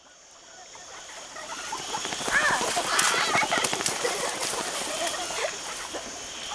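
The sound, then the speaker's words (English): A dense jungle wildlife ambience by a lake, with a steady high insect buzz, scattered bird chirps and calls, and soft watery rustling, swelling slightly in the middle and continuing evenly without any voices. “In the jungle, by the lake.”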